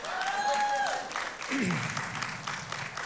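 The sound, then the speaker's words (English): Thin, scattered applause from an audience rustles steadily throughout, with a couple of sustained voice tones early on and a brief falling vocal whoop partway through. “So, wow, that was the weakest start of an applause ever.”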